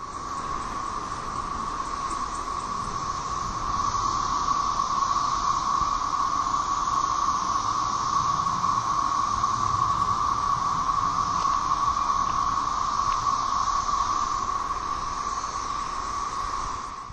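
A chorus of cicadas in a backyard drones without pause in two layers, a steady mid-pitched whine beneath a higher hissing shimmer, swelling slightly after the first few seconds. No one speaks.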